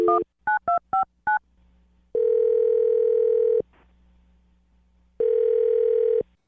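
A quick string of five touch-tone beeps as a phone number is dialed, followed by two long, steady ringback tones separated by a pause, heard clearly over a faint line hum with no talking.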